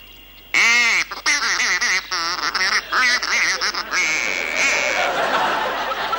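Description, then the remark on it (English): A person on a duck hunt mimics a duck mating call to lure ducks, a rapid series of loud, nasal quacking calls, sustained, ending in a rougher, breathy stretch. “I speak fluent duck.”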